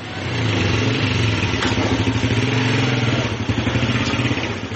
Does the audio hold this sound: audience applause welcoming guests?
no